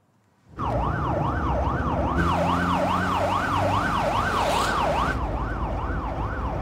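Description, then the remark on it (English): A loud siren of a speeding ambulance wails in a fast, steady up-and-down sweep over the rumble of a moving vehicle, a police car following the ambulance, starting abruptly and continuing without a break. “are holding hands in the back of a police car as it follows the speeding ambulance.”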